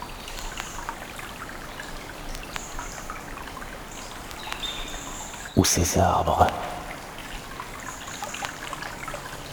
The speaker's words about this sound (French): L'eau qui glousse, la toile de fond des oiseaux qui sifflent.